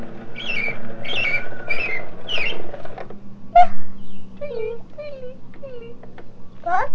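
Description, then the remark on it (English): A talking animal-sounds toy, pulled way back to play it, makes a bird call: four quick, high chirping phrases in a row, then a sharp chirp followed by several lower, falling tweets over a faint steady hum. “You want to hear the bird again?”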